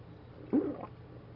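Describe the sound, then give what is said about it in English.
A person takes a single wet gulp of water, brief and soft against a quiet, faint hum, with no one speaking. “So continuing our reading, first I'm going to have a sip of water here.”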